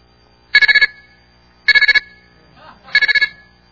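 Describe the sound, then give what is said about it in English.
A phone's ringtone plays three times as a demonstration, each ring a rapid burst of about five bright electronic trills, with short pauses between and a faint murmur in one gap. “Yeah, that's the one piece of bling that I care about on my phone, and only this crowd would actually know what that is.”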